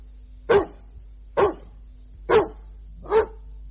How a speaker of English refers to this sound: Cross-questioned on the basis of two barks for yes, one bark for no, the day's proceedings ended in chaos when the animal refused to stop barking.